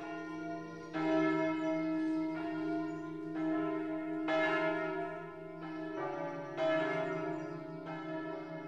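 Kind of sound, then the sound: signal or alarm, heavy church bells ringing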